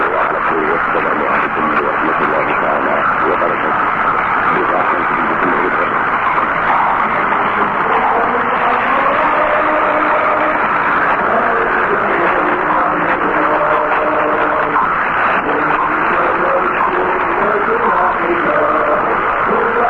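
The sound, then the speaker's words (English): The tail end of a sign-off anthem from a radio station in Morocco, received on medium wave at 702 kilohertz: muffled, band-limited music with sustained melodic tones, buried under steady hiss and crackle throughout, with no clear voices. “Here now with the tail end of the sign-off announcement and anthem, Morocco on 702 kilohertz.”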